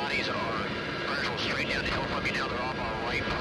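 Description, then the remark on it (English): A Black Hawk helicopter flying overhead on a daily mission, moving toward runners spotted on the ground, gives a steady, loud engine and rotor roar that fills the whole moment without letup, with a voice talking over the noise. “Equipment like this Black Hawk helicopter, just one of hundreds of aircraft flying daily missions.”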